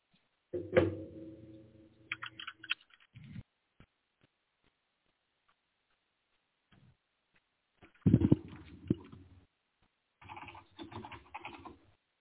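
A door thuds shut, followed by light clicks and rattles, then a second heavy bump and more scattered clattering handling noises. No one speaks.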